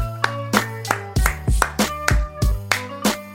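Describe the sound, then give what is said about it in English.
About a dozen sharp hand claps in a steady, even rhythm, fairly loud, with sustained musical tones humming underneath. “Slow clap.”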